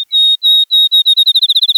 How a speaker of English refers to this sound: Then, a field sparrow outsings them all.